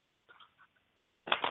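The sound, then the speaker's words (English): A deck of tarot cards being shuffled: a few faint, soft rustles, then a short, loud, crackling riffle near the end, with no talking. “Okay, so just say stop shuffling whenever you're ready.”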